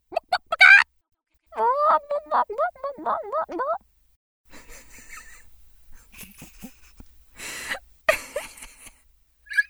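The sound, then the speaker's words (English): A person imitates a rooster crowing: a brief squawk, then a long, wavering, strained cock-a-doodle-doo, followed by breathy, scratchy vocal noises and gasps. “Rooster.”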